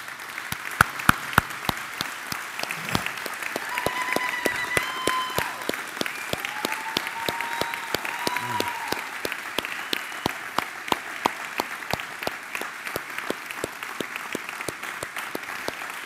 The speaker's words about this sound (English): If we all can stand up and give it a round of applause for our Moses, it would be beautiful.